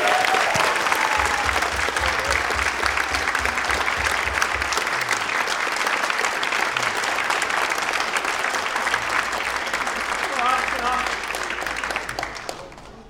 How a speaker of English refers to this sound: So I believe the normal way of congratulation is a round of applause.